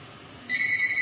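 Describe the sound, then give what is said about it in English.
A phone's electronic ring cuts in halfway through, a steady, bright high-pitched tone over faint background noise, clear, with no one talking; the phone keeps ringing repeatedly. “All right, I got to figure out why this phone keeps ringing.”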